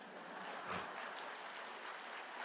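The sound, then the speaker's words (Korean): An audience claps together in a steady, dense burst of applause that holds at an even level for the whole stretch, with no voices standing out above it. “아니, 그냥 친 김에 치십시오.”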